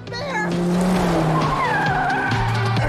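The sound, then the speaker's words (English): An ambulance's tires squeal loudly as it skids in a high-speed chase in the film Cocaine Bear, a continuous high screech with shifting, gliding pitch over a steady engine roar that lasts the whole few seconds. “an EMT and a park ranger attempt to escape the drug-addled bear in an ambulance.”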